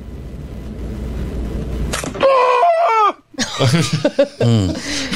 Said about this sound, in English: He felt that in his soul. They said he screamed like a cartoon character.